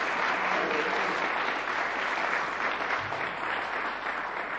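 An audience applauds steadily, a dense wash of clapping holding at a fairly loud, even level for the full length, with no voices cutting through.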